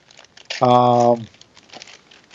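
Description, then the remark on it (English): Crackly crinkling of Christmas wrapping paper being pulled and crumpled as it is torn off a heavy gift from RC in Texas, with a brief sustained vocal sound cutting through in the middle. “took off the Christmas wrapping paper.”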